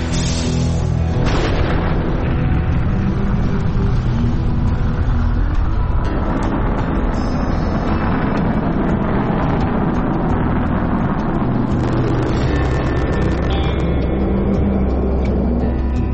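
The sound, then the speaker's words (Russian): A rocket's main engines ignite and build into a deep, continuous thunderous roar, loud and sustained for the whole stretch with crackling rumble and no voices. “5, 4, запуск главных двигателей, 2, 1.”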